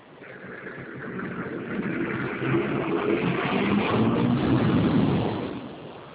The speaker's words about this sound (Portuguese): tá passando ônibus aqui agora? Tá. Barulho, né? Vamos esperar um pouquinho então.